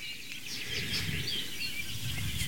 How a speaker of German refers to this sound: Entweder ist der Gesang melodisch, die super Amsel, die wir im Hintergrund auch hören. Hören wir sie?